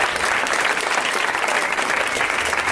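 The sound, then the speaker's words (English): A steady wash of audience applause on a show welcoming guests Tom Lennon, Steve Agee and Alia Shawkat, many hands clapping together at a constant, fairly loud level for the whole stretch with no voices standing out. “Way to milk the applause.”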